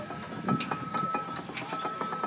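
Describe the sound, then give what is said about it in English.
Mechanical engine noise with a steady hum and a repeating series of soft clicks and ticks from cogs going round inside the engine, fairly quiet with a constant whining tone running through it. “It's cogs going round.”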